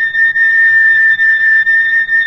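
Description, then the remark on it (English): A steady, high-pitched oscillator tone of about 4,000 cycles per second, demonstrating an iron bar spun about 4,000 times a second, holds unbroken for a couple of seconds, piercing and fairly loud, with a faint wavering in level and no voices. “And finally, if my hand were quick enough to spin this around about 4,000 times a second, the reversals would sound like this.”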